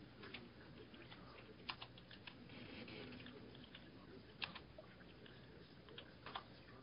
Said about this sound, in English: Anyone? I'm typing right now.